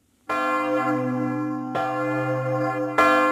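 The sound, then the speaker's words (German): A large church bell rings out loudly, struck by its clapper three times at a slow, steady pace, each stroke a bright metallic clang over a deep sustained hum that keeps ringing between strikes. “Wenn der Klöppel auf die Glocke schlägt, dann ist das für die Glocke eigentlich eine ziemlich heftige Beanspruchung, die im Extremfall dann dazu führt, dass ein Riss im Gefüge entsteht.”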